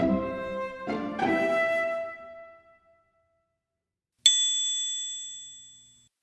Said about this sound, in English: Then the doorbell rang. Ding dong! Ding dong!